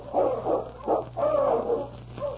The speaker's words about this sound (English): The following day, Ulak had gone out to hunt when Sergeant Preston heard the sound of his dog team, which meant Keok's return.